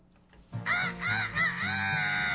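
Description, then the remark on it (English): A rooster crows once, loud, a long strained call that rises and wavers before holding to the end, with a brief faint rustle just before it and no talking. “Oh, hi again, Mr. Chicken.”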